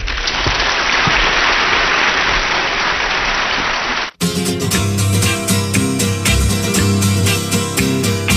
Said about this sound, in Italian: quand on vous fait entrer sur une scène, on ne peut rien vous dire, il y a trop d'applaudissements, mais vous les méritez bien.